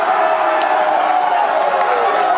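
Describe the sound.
A dense, roaring crowd of NC State fans at Players Retreat cheering and shouting as they watch the Wolfpack's March Madness win over Texas Tech, their first in 9 years, loud and continuous throughout with many overlapping voices and excited whoops.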